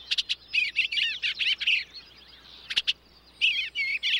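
songbird chirping

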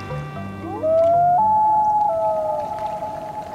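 common loon call

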